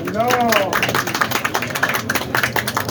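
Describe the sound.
An audience claps steadily, a dense wash of many hands that keeps going for a few seconds, with a voice audible over it near the start.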